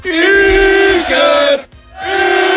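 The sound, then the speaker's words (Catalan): A group of voices cheers and hollers loudly, one long sustained burst, a brief pause, then another rising cheer: the first ovation in the new IB3 radio studio, given for the show's technician. “Seguim cap endavant i ho farem en sa primera ovació”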